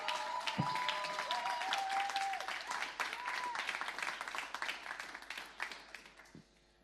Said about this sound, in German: Applaus für